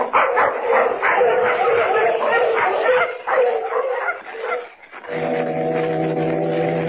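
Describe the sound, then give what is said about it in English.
A pack of sled dogs, about to be harnessed, barks and yips in a loud, overlapping, excited chorus for several seconds, then a steady, droning low foghorn tone takes over. “Come on, we'll get the dogs harnessed.”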